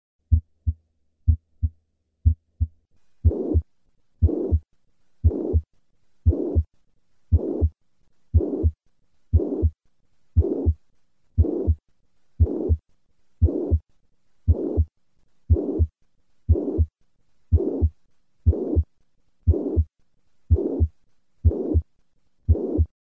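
A steady heartbeat at about one beat per second, each beat carrying a prolonged, even blowing whoosh, a plateau-shaped systolic murmur of mitral regurgitation, maximal at the cardiac apex, after a few seconds of plain, crisp heart sounds. No talking.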